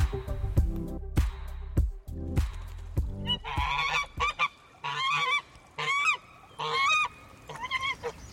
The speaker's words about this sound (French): On est en France, dans le Limousin, près de l'eau. Les canards et les oies ne sont pas contents et ils ont bien raison.